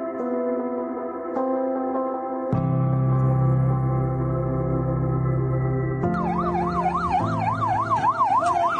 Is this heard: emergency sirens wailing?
yes